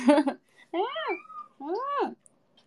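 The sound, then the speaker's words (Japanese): A cat named Chii-chan cries out loudly in two long, drawn-out meows, each rising then falling in pitch, after a brief harsh burst of sound at the start. “ちいちゃんめっちゃ泣いてるの聞こえる？”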